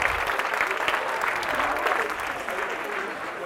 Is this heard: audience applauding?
yes